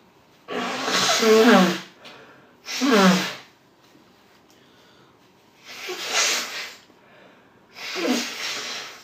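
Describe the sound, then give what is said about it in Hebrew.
Someone blows their nose four times, each a loud, rushing honk with a brief low rasp at the start, separated by short pauses. The later two blows are a bit softer. No one speaks. “טוב, מקנח, סליחה.”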